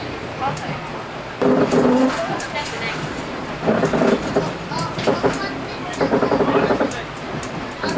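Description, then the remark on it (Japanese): Steady rumble of the SL Hakodate Onuma steam locomotive train in Hokkaido, Japan, heard from inside a carriage on its run from Hakodate toward Mori, with continuous track noise and an onboard announcement voice speaking faintly over the moving train. “今日は SL 函館大沼号にご乗車くださいまして誠にありがとうございます。”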